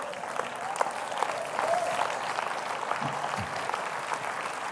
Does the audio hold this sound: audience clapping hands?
yes